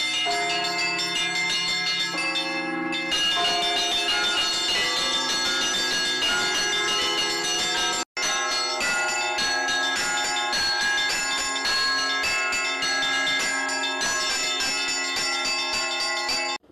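Church bells ring continuously in a dense, layered peal, many overlapping strikes sustaining a bright metallic wash; loud, with a brief break near the middle before the ringing resumes.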